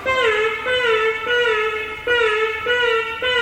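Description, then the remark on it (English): A buzzy electronic instrument tone plays a series of short, slightly wavering phrases, fairly loud, imitating the chirping of a little bird, with no voices present. “Little birdie.”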